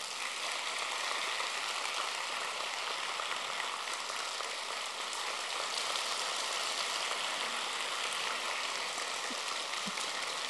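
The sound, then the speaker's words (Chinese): An audience at a Buddhist talk applauds steadily for about ten seconds, the dense clapping merging into an even, hissing wash of sound that holds its loudness throughout, with no voices over it. “好，根据你们的掌声，还得讲几个笑话。”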